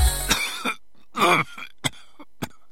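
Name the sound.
persistent coughing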